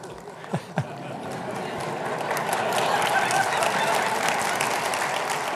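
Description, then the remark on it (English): An audience breaks into applause, the clapping building from a few scattered claps into a dense, sustained wave that holds steady, with some crowd voices mixed in. “I'm only giving about 30 minutes, folks, and didn't plan on all the applause”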